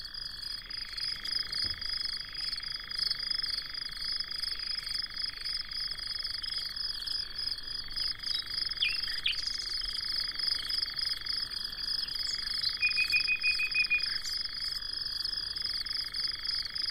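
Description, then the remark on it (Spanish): A dense, steady summer night chorus of crickets stridulating without pause, with the low continuous churring of a European nightjar underneath and a few brief, faint notes of a nightingale hidden in a bramble near the middle. “Un nocturno de verano, serenidad, tranquilidad, un manto de grillos que está estridulando tranquilamente. Al fondo ronronea un ave nocturna, chotacabras gris, europeo.”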